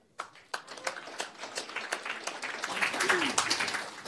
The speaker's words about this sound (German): Und wir müssen uns dann ehrenhalber, und ich hoffe, Sie gutieren das zum Beispiel durch Klatschen, dass Frau Poschmann einen Tag nach ihrem Geburtstag hier nach Frankfurt gekommen ist.